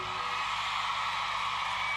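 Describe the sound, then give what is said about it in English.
A crowd of women scream and cheer together in a dense, continuous roar that stays loud and steady for the whole stretch, with no pauses or clear individual voices. “All the ladies in the house, scream tonight.”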